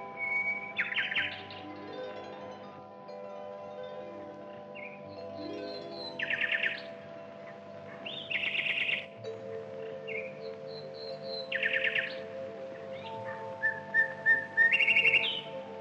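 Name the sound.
nightingale singing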